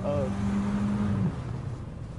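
A Trans Am muscle car engine drones with a steady, fairly loud hum for about a second, then drops away into a lower, rougher idling rumble.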